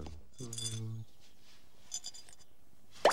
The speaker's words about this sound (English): He shakes out the measly contents, just 3 coins. Oh, just look at that. I'm down to my last few coppers.